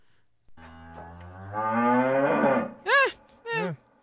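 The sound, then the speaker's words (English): A person imitates a cow, giving a long, rising mooing call followed by two short, warbling vocal bursts, loud with no other sounds. “So somewhere between a terrible ghost impression and livestock.”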